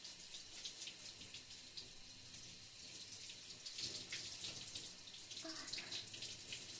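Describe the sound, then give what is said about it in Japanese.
Shower water sprays steadily, a continuous hissing rush with slight shifts in splash as the stream rinses someone's back. No voices are heard. “次は背中を流しますね。”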